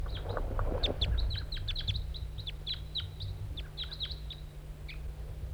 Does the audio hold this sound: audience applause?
no